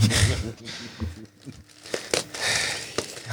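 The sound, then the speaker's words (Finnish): Paper rustles and crinkles as gift wrapping is pulled open, with a few sharp tearing bursts and crackles, continuing steadily for a few seconds. “Avaa yes. Se lahjan.”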